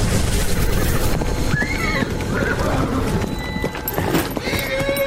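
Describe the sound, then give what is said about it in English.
Rapid hoof clip-clops of a female horse galloping closer after being summoned, steady and fairly loud against a busy outdoor background, with a brief whinny-like rising call in the middle. “Let me just summon my dame horse. She's always just a few seconds away.”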